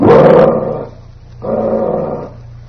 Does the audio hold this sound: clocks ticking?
no